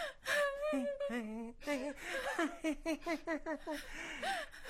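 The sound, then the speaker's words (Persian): A woman sobs and wails, her voice breaking into shaky, gasping cries and quivering whimpers that rise and fall in uneven bursts, with no clear speech. “گریه میکنی؟”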